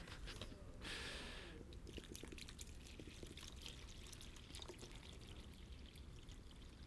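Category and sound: household object, water poured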